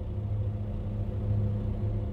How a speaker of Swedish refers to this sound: Utanför hörs ljudet från en lastbil på tomgång.